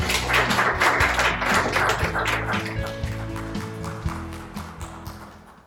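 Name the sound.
audience clapping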